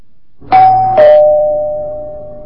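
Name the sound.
doorbell ringing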